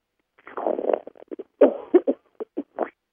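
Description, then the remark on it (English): A fit of coughing: one longer, rough burst followed by a string of short, sharp coughs in an uneven rhythm, with no talking in between. “Excuse me, I got the coughs right now.”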